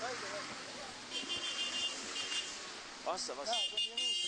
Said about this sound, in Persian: بینندگان عزیز، همکنون ماشین هایی که حامل عزیزان ما و به نوعی آزادگان ما هست وارد شدن